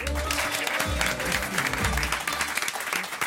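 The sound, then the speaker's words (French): Sustained audience applause greeting Jean-Paul Lilienfeld and Gaël Biodano, author and performer of a stage play, as guests on a morning show, a dense, steady clatter of many hands clapping at once, loud and continuous throughout, with faint crowd murmur mixed in. “Applaudissements pour Jean-Paul Lilienfeld et Gaël Biodano.”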